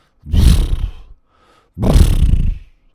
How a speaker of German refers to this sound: Doch genau in diesem Moment hört der Dino ein doppeltes Schnaufen.